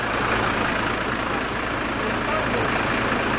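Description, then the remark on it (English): A big yellow council street cleaner truck's engine runs steadily as it backs up a terrace to suck out a blocked drain, a loud, continuous low rumble layered with a broad mechanical roar and hiss, with no breaks over a few seconds. “Halfway up the terrace, the council have arrived, backing up a big yellow street cleaner to suck out a blocked drain.”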